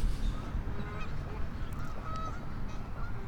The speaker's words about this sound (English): We still got some arguing geese. Honk, honk, honk. Honk, honk, honk. They're saying hello.